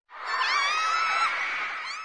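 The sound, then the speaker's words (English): A crowd of girls screams in high-pitched voices, a dense, sustained wall of shrill cheering that starts abruptly and stays loud and steady for about two seconds. “Girls seem to be yelling out to a superstar or something.”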